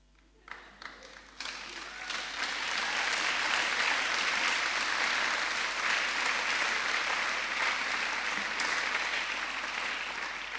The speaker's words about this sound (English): Well done. See, I didn't even ask you to applaud.